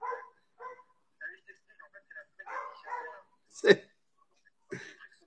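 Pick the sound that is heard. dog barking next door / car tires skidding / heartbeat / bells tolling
dog barking next door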